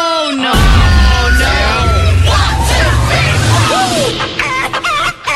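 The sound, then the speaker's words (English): A rooster crows loudly amid a busy barnyard, with overlapping bird calls and clucking layered over a steady low rumble, dense throughout. “Get your chicken dance on. I hate everything about this. It's 6:13 now. Time to wake up.”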